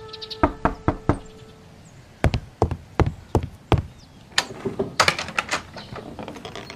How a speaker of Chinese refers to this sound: 说到这里，有人来敲门，鲁迅连忙起身开门。